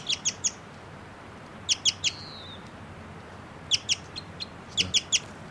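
A bird sings short song phrases: quick clusters of three or four high, sharp chirps, repeated several times with brief pauses, plus one thin gliding whistle, over a soft background hiss.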